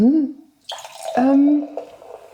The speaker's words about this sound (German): Und, darf ich dir nachschenken? Ja, natürlich. Den köstlichen natürlich. Hört ihr dieses Plätschern dieses wunderbaren Champagners?